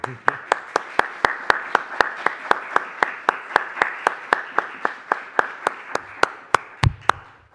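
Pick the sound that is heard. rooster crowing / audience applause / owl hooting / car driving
audience applause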